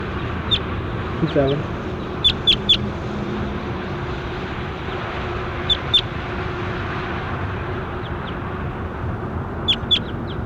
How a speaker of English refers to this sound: That was bird 27.